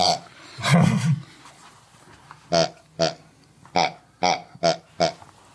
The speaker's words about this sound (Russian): Дементий гонит свиней